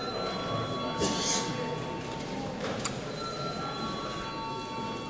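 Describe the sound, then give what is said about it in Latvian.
A Saeima chamber bell rings steadily, its sustained tones holding unbroken over a low murmur of voices and shuffling, with a couple of brief clicks along the way. “Lūdzu zvanu.”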